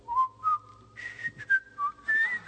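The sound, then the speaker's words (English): Someone whistles the theme tune of The Andy Griffith Show alone to a pet bird in its cage: a bright, clear melody in short phrases that hop between mid and high notes, with brief pauses between them. “I taped the Andy Griffith song.”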